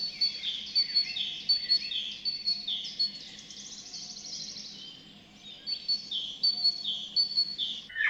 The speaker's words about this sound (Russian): А это пропела синица.